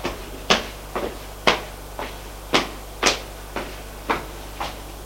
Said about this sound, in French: L'on ouvre la porte.